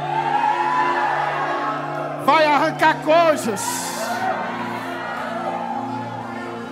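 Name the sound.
audience shouting and whooping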